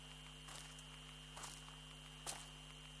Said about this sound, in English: Oh, I love the sound of rustling leaves in the autumn.